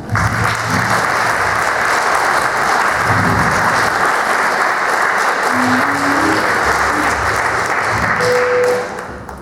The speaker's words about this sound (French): le maire de Pedrousse qui m'a signalé que les applaudissements étaient sans taxes aujourd'hui. Donc n'hésitez pas, parce qu'ils se nourrissent d'applaudissements.